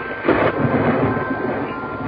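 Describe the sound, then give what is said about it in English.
A rolling rumble of thunder, swelling into a louder burst early on and then settling into a steady, dull roar that fills the whole two seconds, with no one speaking. “Possibly those thunders of our dear Shelley.”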